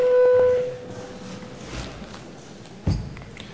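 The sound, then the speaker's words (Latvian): A parliament chamber bell rings before a vote on a bill in its first reading, sounding once as a loud, steady mid-pitched tone lasting about half a second, then giving way to quiet murmuring background noise and a single soft thump. “Lūdzu zvanu.”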